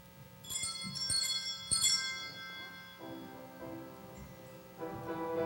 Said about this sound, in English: Shall we all stand as we praise God with ringing the bells to let the whole world know that Jesus Christ has come?